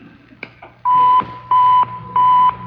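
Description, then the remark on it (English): A just-switched-on radio receiver being tested gives three loud, steady mid-pitched beeps at an even rhythm, each lasting under half a second, after a couple of faint clicks; the signal is loud because the receiver is close to its source. No one speaks. “Hit the receiver switch.”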